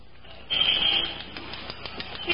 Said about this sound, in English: Maybe you ought to use the glass cutter some more.